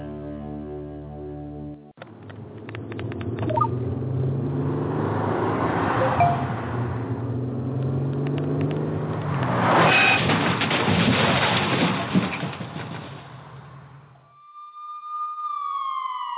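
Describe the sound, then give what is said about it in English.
A car drives along with a steady, rushing road noise that swells and fades for several seconds, then an emergency siren begins with a rising wail and holds its tone at the end. “These are the sounds of someone taking their eyes off the road.”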